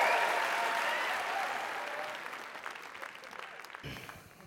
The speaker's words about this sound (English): A round of applause,